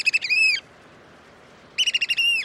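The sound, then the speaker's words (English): American oystercatchers calling as the tide falls in Cape May, New Jersey: two loud, shrill bursts of piping, each opening with quick stuttering notes that run into a sustained piercing whistle, separated by a brief quiet gap. “As the tides fall in Cape May, New Jersey, these American oyster catchers are living up to their name.”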